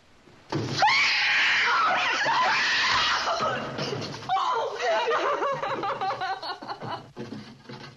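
A daughter's loud, unearthly scream in a classic Hollywood film, as a lantern is blown out and she understands they will die, bursts in, sustained and piercing for several seconds, then breaks into ragged, sobbing cries and wails that gradually fade.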